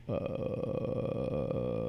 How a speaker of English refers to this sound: Why does it sound like that? Like a burp.